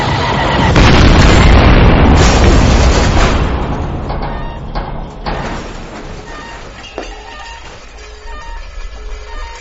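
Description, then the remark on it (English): A loud sci-fi weapon blast erupts into a roaring explosion, crackling with sharp bursts before rumbling down into a long, fading low-end tail. No voices, just the blast and its decay. “One more blast like that, and we'll be as likely to survive as a popular character in Game of Thrones”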